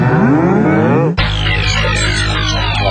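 A single loud cow moo, lasting about a second before being cut off abruptly and replaced by a dense, noisy sound. No one speaks.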